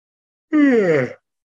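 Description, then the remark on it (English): A single voiced yawn, not from fatigue, fairly loud, with a drawn-out groaning tone that slides downward in pitch over about half a second before breaking off into silence. “And the yawns are not fatigue.”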